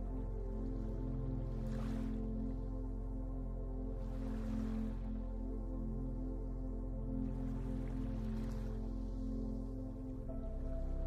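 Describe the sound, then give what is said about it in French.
Soft ocean waves wash onto a beach in three slow swells, each rising and fading, beneath a steady, warm droning music bed. No one speaks. “Vous vous laissez bercer par le chant délicieux des vagues.”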